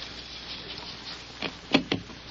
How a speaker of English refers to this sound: So when I pour the powder, it'll sift into the hole, understand?